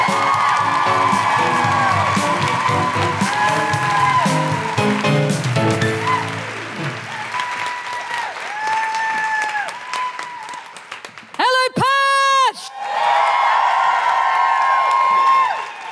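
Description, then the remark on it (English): A crowd at a live music show bursts into sustained applause and cheering to close the first half, with rising whoops and high-pitched woo calls cutting through the clapping, including a loud burst of whoops near the end. “To close the first half and leave you on a real high, put your hands together and make incredible woohooing noises for the still mildly jet-lagged but incredibly energised”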